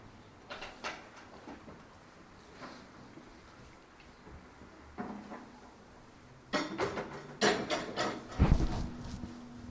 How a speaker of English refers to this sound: move these chairs away and put them in the back.